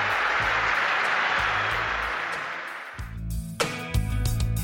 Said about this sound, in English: Here come the Addicts, down to our left-hand side. And you can hear the applause that greets them as they hit the valley surface